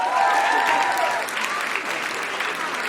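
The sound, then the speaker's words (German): Steady audience applause, a dense wash of clapping hands that holds at a strong level throughout, with some cheering or whistling tones riding over it at the start, applauding those who have already dared to come forward to sing. “Ein Applaus für all diejenigen, die sich schon getraut haben.”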